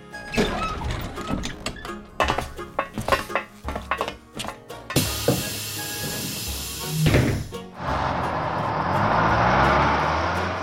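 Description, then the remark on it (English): A bus hisses loudly from its air brakes after a run of metallic clanks and rattles, then a steady, noisy engine rumble builds as it drives off; Mr. Hippo drives the bus in the forest, with animals on board. “Mr. Hippo drives a bus in the forest.”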